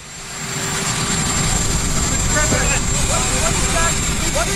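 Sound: helicopter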